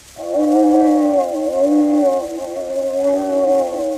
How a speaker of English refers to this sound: The animals began to howl. And the birds to sing and cry. There was a polar bear who growled like this.